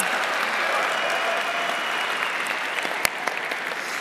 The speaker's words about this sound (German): Genau, macht mal hier, das ist doch besser. Das ist die Zustimmung und der Applaus.